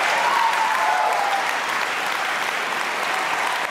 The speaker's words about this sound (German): Applaus und Jubel für das beste Sachbuch des Jahres an den Historiker Ewald Frieh für sein Buch Ein Hof und elf Geschwister. Gestern Abend wurde der Deutsche Sachbuchpreis ja verliehen in der Hamburger Elbphilharmonie.